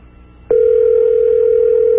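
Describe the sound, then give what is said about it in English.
A telephone ringback tone on an outgoing call to a 7-Eleven store in Cherry Hill, New Jersey: a steady, fairly loud electronic purr starts abruptly after a brief hush and holds unbroken to the end, with no one speaking. “They're probably running for the phone right now, knowing that this is the most important phone call of their lives.”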